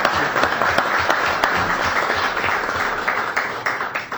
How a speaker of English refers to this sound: I think we give a round of applause for getting this grant done. Thank you.